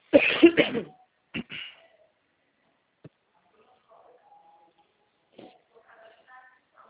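A burst of several harsh coughs at the start, followed by a couple more short coughs, then quieter faint sounds and a brief thump.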